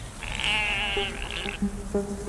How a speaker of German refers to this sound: Und das Schlusswort haben heute natürlich auch die Schafe und Ziegen.